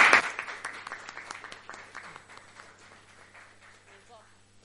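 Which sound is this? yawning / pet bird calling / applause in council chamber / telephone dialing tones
applause in council chamber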